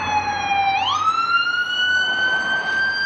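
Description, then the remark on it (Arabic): An ambulance siren wails loudly, its tone sliding upward into a steady high pitch, with faint engine rumble beneath and no talking; an ambulance carrying casualties and wounded to Nasser Medical Complex in Khan Younis, Gaza. “لا تتوقف مركبات الإسعاف والإنقاذ عن نقل الضحايا والجرحى لمجمع ناصر الطبي بمدينة خان يونس.”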